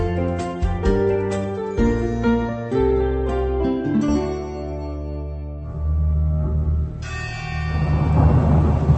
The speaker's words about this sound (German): Es donnert, ein Hund fletscht seine Zähne und es wird geschossen.